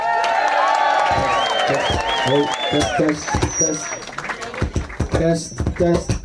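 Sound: audience applause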